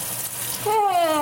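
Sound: water running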